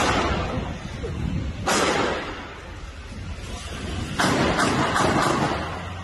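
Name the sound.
six gunshots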